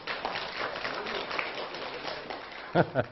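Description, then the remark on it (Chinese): An audience applauds to show agreement with the speaker, clapping steadily for about three seconds in a dense, even patter of many hands, then a voice cuts in briefly as the applause thins out. “大家要同意我这个，就给我点掌声。”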